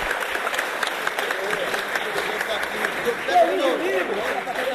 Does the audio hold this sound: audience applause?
yes